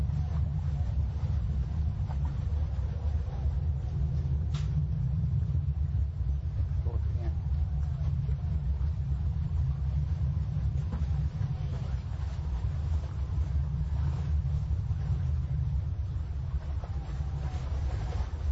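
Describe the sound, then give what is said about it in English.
Military planes at the Kaneohe Marine Base roar in a steady, deep rumble that holds at a constant level throughout, a dense low-pitched drone with faint hiss on top and no clear breaks. “What you hear in the background, this is the Kaneohe Marine Base, the planes, and you hear the roaring.”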